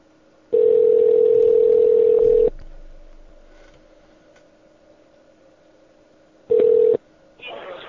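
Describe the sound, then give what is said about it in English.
A Skype call dialing tone as a call is placed to someone at home: a steady, mid-pitched electronic tone sounds loudly for about two seconds, falls quiet, then returns as a short burst, with no one speaking. “All right, I am going to try calling Josh at home, and I think before I do that, I'm going to restart my audio repeater to hopefully clear up some of the crackle.”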